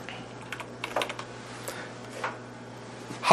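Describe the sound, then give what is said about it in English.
Irregular clicks of typing on a computer keyboard, fairly quiet, with uneven pauses between keystrokes over a steady low hum, ending on a slightly louder tap. “I'll never make it through this justice race because I'm hitting the wrong keyboard.”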